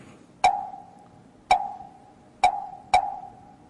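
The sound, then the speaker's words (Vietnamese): A wooden temple fish (mõ) struck four times at a Buddhist temple as the opening strokes, each hollow, resonant knock ringing briefly before fading; the last two strikes come closer together than the first two. No one speaks. “Thành thử ra ở đây á, thì Pháp Hòa thấy mình thỉnh mõ là ba tiếng khởi đầu, thấy không?”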